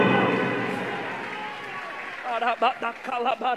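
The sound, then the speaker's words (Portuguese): A church audience at MBCI applauds with a dense, steady wash of clapping that gradually fades over a few seconds before a voice begins speaking over the tail of it. “Enquanto a igreja está aplaudindo, Deus está liberando um milagre para você.”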